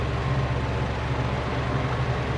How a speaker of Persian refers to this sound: خاموش کن ماشینو.